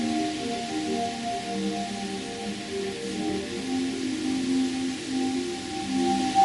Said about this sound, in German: Im Moment kannst du es sehr gut wahrnehmen durch den Wind, der hier durch das Fenster hineinströmt. Geräusche von außen hier in diesen Raum hineindringen.